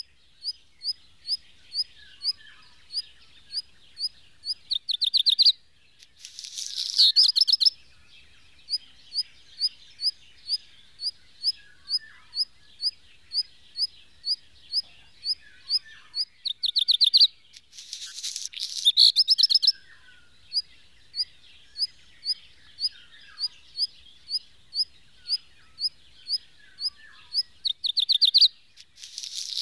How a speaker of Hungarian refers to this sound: Fészke közelében gyakran hallatja rövid füttyögésekből álló fióka féltő hangját, melyek megelőzik ének strófáját.